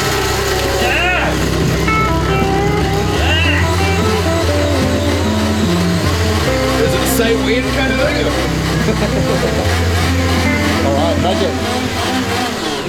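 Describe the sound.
An electric blender runs loudly and continuously, its motor whirring with a steady buzzing drone that shifts pitch a few times, while voices talk over it.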